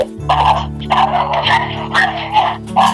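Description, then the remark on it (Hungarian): Several dogs bark in a quick, steady run of loud barks for the whole stretch, over a low constant hum in the background. “Csak várjál, bezárom ide a kutyákat, gyertek be!”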